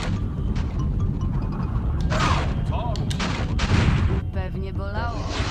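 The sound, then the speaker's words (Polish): Loud, continuous video game gunfire and booming blasts crackle in a dense barrage, with voices talking over the action toward the end. “Słuchajcie, chyba mnie kulka właśnie przejechała.”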